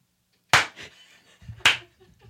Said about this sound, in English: Darling, that robotic arm is clapping wonderfully. Can you hear it from here? Yeah, it's really loud. It's actually like as loud as if you were right here because the steel really